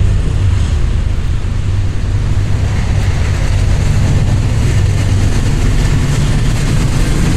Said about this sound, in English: Yeah, that's a pretty quiet train.